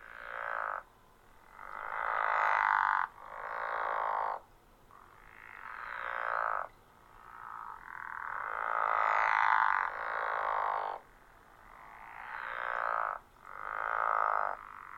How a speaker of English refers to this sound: The pickerel frog calls for about 3 weeks each spring.